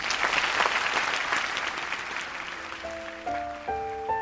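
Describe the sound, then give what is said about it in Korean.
An audience at a performance applauds a tone chime performance in a dense, steady wash of clapping that fades over a few seconds, while clear bell-like tone chime notes begin ringing in stepped, sustained notes near the end. “학교 수업 틈틈이 갈고 닦은 태권도 격파 실력을 선보였고 트럼본 연주에 또 아름다운 선율의 톤차임 연주로 큰 박수를 받았는데요.”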